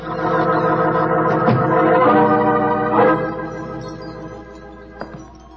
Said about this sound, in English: There was a tinkle of Chinese wind bells as I walked towards a long, low room.